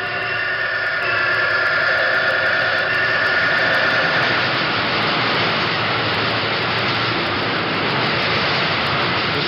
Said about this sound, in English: We walked around the machine and picked up the sounds of the auxiliary equipment. This is the oil circulating device that circulates oil around the bearing of the rotary condenser, which is inside the machine.